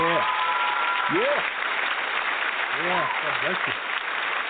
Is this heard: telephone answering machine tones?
no